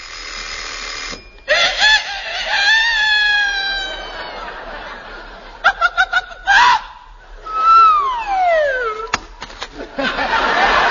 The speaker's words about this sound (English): You see, at 5 a.m., the alarm clock rings, the rooster crows, the hen wakes up and lays an egg right in the frying pan.